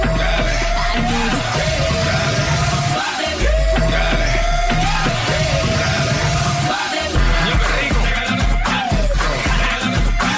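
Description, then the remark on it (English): A long, high shouted yell, a singer's trademarked signature yell, held almost continuously and dipping briefly every couple of seconds, rings out loud over a thumping dance beat with heavy bass. “He has trademarked that yell.”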